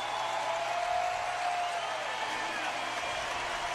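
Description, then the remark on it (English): A steady roar of crowd noise from the baseball crowd at Great American Ballpark during a Reds–Brewers game, cheering for pitcher Buck Farmer; a dense wash of cheering and chatter that stays loud and even from start to finish with no clear pauses. “Crowd at Great American Ballpark, the smallest of the weekend, but they're making some noise right now for Buck Farmer.”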